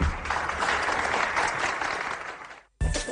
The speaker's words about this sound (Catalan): Aplaudid un poquito, coño.